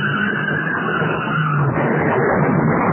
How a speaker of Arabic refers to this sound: بل إن السائق قد ينسى نفسه، بل ينسى رجله على دواسة البنزين، قد ازداد السرعة إلى درجة جنونية.